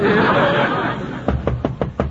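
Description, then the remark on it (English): A quick run of about five sharp knocks on a door, evenly spaced, coming right after a noisy burst of audience laughter. “Oh, somebody's at the door.”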